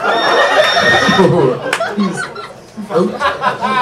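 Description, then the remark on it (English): A loud, shrill horse whinny sound effect rings out at the start, quavering and then trailing off, followed by people talking and chuckling. “Double horse points.”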